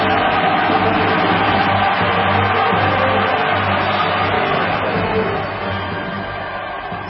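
A large crowd in a scene from the film Star Wars: Revenge of the Sith breaks into thunderous applause as the Republic is declared reorganized into the First Galactic Empire, a dense, continuous roar of clapping and cheering that holds steady and loud for several seconds before easing slightly at the end.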